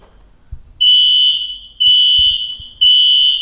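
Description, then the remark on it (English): A loud, piercing fire alarm blares in three long repeating tones, each about a second long with brief gaps between, dominant over faint low rumbles and knocks. “That is really the fire alarm?”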